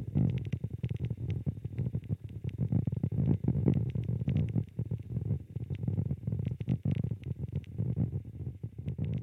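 Vibrations of water inside a tree trunk, amplified over 400 times by a listening device: a continuous low, muffled rumbling with irregular gurgling surges and faint crackly ticks, steady in loudness throughout, no voices.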